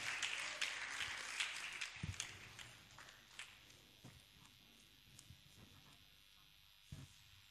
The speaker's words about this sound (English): Choir, God bless you. Please celebrate the choir for me. Are you celebrating? Then keep clapping. Keep clapping.